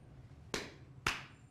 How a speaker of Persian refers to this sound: اون دست زدنه. کف. کف دیگه چیه؟ کف اینه.